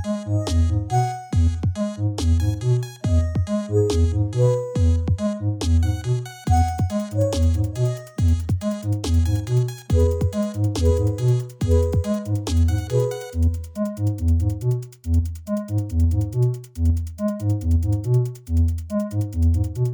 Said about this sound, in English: you can download a set of original music composed for this episode by Sean Rial and use it as your personal ringtone